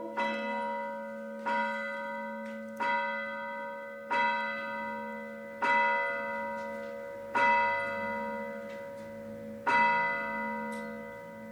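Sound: church bells ringing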